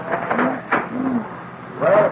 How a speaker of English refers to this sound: And you're hearing the sounds of the bar as it just swings along here about 2 o'clock in the afternoon. The bar is lined with Eskimos. Just people sitting here. Guys have come in from the Gold Dredge.